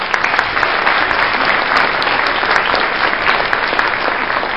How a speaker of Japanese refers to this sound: パチパチパチパチパチパチ、 はい、じゃあ拍手の効果音でも流しとく？